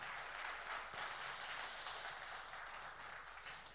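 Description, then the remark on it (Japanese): An audience at the Sakaemachi Christmas event applauds steadily, a dense wash of many hands clapping at a sustained, fairly even level for several seconds, with no voices heard over it. “大きな拍手ですね。”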